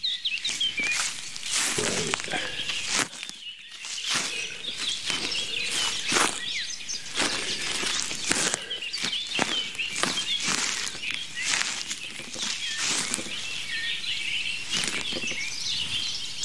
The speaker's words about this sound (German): Und ich mache jetzt mal Schritte. Moment. Ihr könnt mitzählen. Das war der erste.